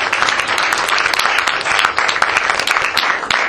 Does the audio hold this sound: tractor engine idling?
no